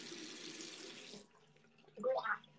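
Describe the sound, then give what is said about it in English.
A sink faucet runs in a steady hiss for just over a second, then shuts off, followed by a short throaty, gurgling vocal sound as someone gargles water after brushing teeth and accidentally swallows some. “Swallowed some of the water I was gargling with.”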